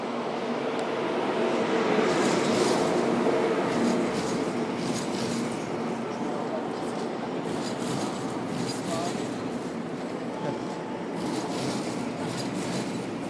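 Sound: train passing on rails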